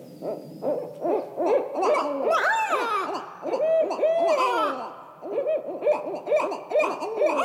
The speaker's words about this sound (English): And then, suddenly, that is a female barred owl. She's calling out to other owls, saying something like, "Hey, buddy, where are you? I'm over here."